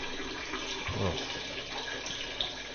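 A big man urinating in a strong, steady stream, a continuous splashing rush of liquid that holds at an even level throughout without letting up.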